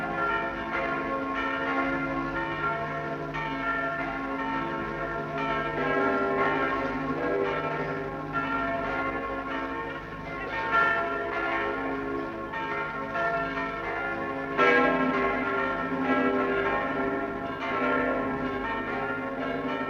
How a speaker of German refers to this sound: Die Glockentöne der wiedererrichteten Paulskirche in Frankfurt steigen hoch und hell in den Himmel.